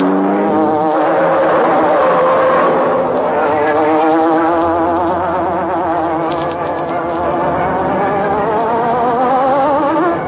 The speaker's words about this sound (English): There was no escape from the careening car that dashed through city streets, skidding through sharp turns.